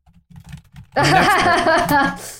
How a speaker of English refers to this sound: Sounds like you're typing